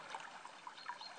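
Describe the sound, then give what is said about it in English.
Soft, continuous splashing and trickling of water as someone is washed by a page and a squire, with small bright droplet plinks scattered through a steady watery wash. No voices. “the splashes of you being washed by your page and your squire.”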